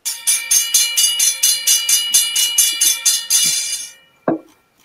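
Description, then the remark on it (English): A railroad crossing bell clangs loudly in a rapid, steady rhythm, then blurs into a continuous ring that abruptly cuts off. A single dull thump follows. “You don't want to know, but I actually love the SafeTran hybrid bells.”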